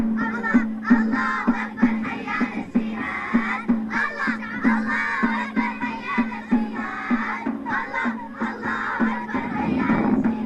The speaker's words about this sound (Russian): Под звуки барабанов сирийские подростки устраивают для турецких журналистов импровизированные концерты прямо на улице. В детской песенке призывают Аллаха послать всем мирное небо.